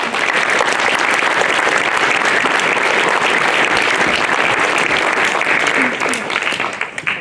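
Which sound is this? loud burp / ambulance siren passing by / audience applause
audience applause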